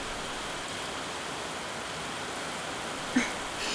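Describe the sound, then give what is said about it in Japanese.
Heavy rain from a sudden downpour pours down in a steady, dense hiss that fills the whole scene, with a brief louder splash or knock near the end and no voices. “うっそ、今日も図書館に向かうつもりだったんだけど、まさか急にこんな大雨が降ってくるなんて。”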